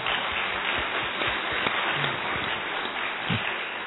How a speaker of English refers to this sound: This clapping takes away half the joy, because it is over, left here. Don't clap.